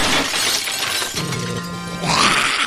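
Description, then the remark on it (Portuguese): A vase smashes with a loud, bright crash, shards clattering and ringing before a second burst of breaking pieces near the end. No one speaks. “Você gosta desse vaso aqui?”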